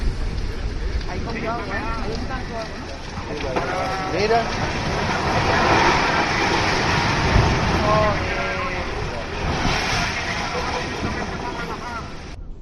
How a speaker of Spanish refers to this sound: Es el momento en el que la lava provocó el derrumbe del campanario de la iglesia de Todoque.